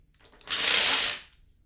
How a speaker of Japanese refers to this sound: 今してるのがドミノ倒し。このドミノ倒しっていうのは後々生まれたもので、本来の遊び方は別にあるのよ。